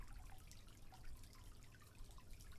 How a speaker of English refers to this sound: Let's drain this water. It's a little dirty now.